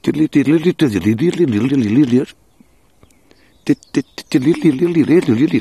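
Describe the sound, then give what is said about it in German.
A person whistles or vocalizes a quick, warbling birdlike melody in two bursts separated by a short pause with a few clicks, imitating the fast melodic song of a dunnock. “Es ist so leicht fisselig, melodisch, schnell. Ungefähr so.”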